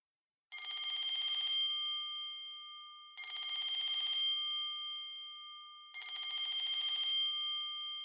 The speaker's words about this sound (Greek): Επιτέλους χτύπησε το κουδούνι 3 φορές.